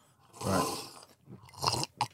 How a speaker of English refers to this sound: If you would like to give it a loud slurp and spray it all just over your taste buds. Smelling it first, like it's wine.